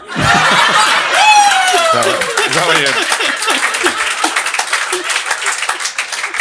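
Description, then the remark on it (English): A crowd claps steadily in a dense, continuous burst, mixed with laughter and excited voices at the start, the applause carrying on loudly to the end. “See how you get a clap for this shit now?”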